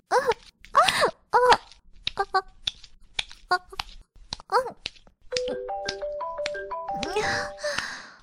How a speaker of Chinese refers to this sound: 我的手机响了。